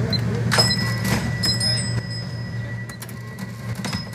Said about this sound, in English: The beeping of cash registers, sing the songs of sales as shoppers tick off their holiday gift list.